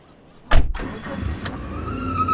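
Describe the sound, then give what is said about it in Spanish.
A car engine cranks and catches with a sudden loud burst, then settles into a steady rumbling idle with a brief rev partway through. No one speaks. “Nos subimos al auto y arrancamos.”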